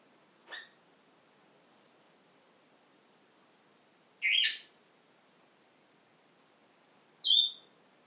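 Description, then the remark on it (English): A female pet bird gives three short, bright whistled chirps, spaced several seconds apart, against otherwise quiet surroundings with no talking. “See if she's going to whistle some songs.”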